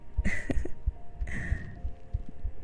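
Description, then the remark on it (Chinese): A rapid, muffled heartbeat thumps low and steady throughout, with two soft, airy breaths drifting over the pulse. “你知道，我在你面前，心跳总会不自觉的加快。”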